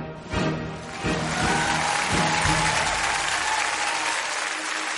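A burst of audience applause, dense crackling claps that swell after a brief start and hold steady at a fairly loud level for several seconds, with a few low thumps early on.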